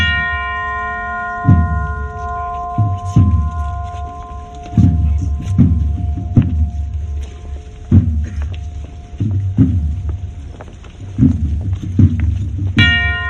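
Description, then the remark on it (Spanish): A single bell rings out alone as one passes the castles of the bridge in a colder, stronger wind. Its long tone slowly fades, with a second strike near the end. Steady low thuds pulse underneath, and no one speaks. “El viento es más frío y más fuerte cuando pasas los castillos del puente y solitaria suena la campana.”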